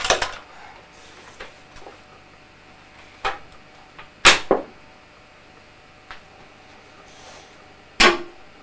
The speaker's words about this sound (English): That is very loud. Very loud. Firework.